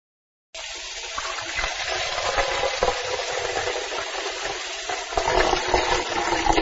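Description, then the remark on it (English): Tap water pours steadily into a pan for several seconds while making tea, a continuous splashing rush that swells slightly louder near the end, with no voices. “First, turn on the tap.Then, put some water into a pan.”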